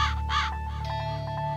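A raven caws twice, loud and harsh, followed by a run of quicker, fainter croaks. A steady low hum sits underneath, and no one speaks.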